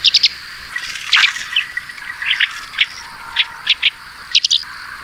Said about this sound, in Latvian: Ja nu tiešām šī nogale ir paredzēta doties kaut kur pie dabas, tad kā saprast, ka kaut kur tuvumā ir īspirksts cīrulis, jāklausās pēc šādas dziesmas.